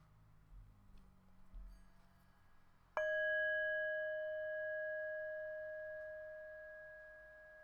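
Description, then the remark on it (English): A single meditation bell is struck after a few seconds of quiet, giving a clear, bright tone with a low hum beneath that rings on and fades very slowly. “And so I'll invite the bell to begin as you call this chosen strength to mind.”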